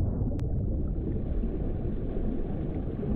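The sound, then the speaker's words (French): A deep, muffled underwater rumble, like a dull explosion, of a large chunk breaking off an Arctic iceberg, heard by a diver at about 40 metres depth; a dense low roar that holds steady throughout, with a couple of brief sharp clicks right at the start and no voices. “Et puis soudain, un grondement, comme une explosion sourde.”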